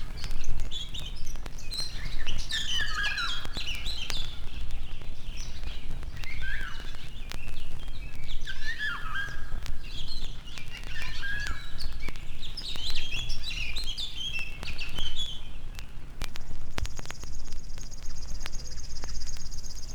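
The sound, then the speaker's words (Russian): A Eurasian golden oriole gives repeated fluting, whistled phrases with short pauses between them, clear against a steady low background hum, and a thin continuous high buzz joins near the end. “Наша иволга не уступает им.”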